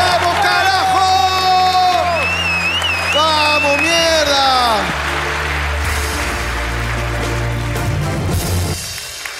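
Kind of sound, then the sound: crowd, audience applause and cheering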